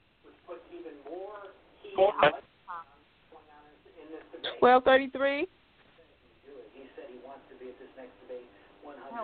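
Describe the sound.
Muffled, tinny audio from a TV on in a caller's background comes through a phone line on a call-in show: indistinct voices run steadily, broken by two louder bursts of strained, higher-pitched sound partway through.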